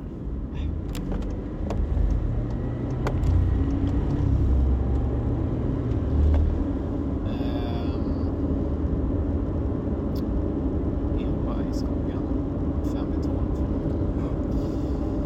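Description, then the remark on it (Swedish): An EPA tractor car drives past in front of the listeners with a steady low engine rumble that swells and fades, fairly loud throughout, with muffled voices underneath. “Tydligen kommer en bil. Okej, okay, har en EPA-traktor där framför oss.”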